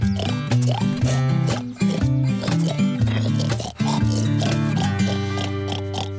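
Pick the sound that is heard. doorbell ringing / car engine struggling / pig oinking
pig oinking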